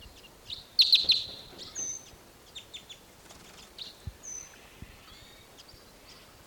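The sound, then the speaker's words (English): Wild birds foraging in an Apache pine chirp in quick, high-pitched bursts, with a brighter cluster of tweets early on, then scattered shorter calls and a few soft flutters over a quiet background. “Pointing at the wild birds.”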